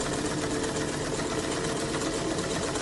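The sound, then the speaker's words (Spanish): A treadle sewing machine pedal runs steadily upstairs, a continuous mechanical whir with a fast, even clatter that holds constant from start to finish, with no voices. “No tardó nada en descubrir que se trataba del pedal de la máquina de coser.”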